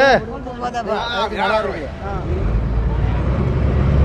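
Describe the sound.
Indistinct voices murmur over the engine of a ferry crossing the lagoon from Malé, which settles into a steady, deep rumble with faint wind and water wash as the vessel moves along.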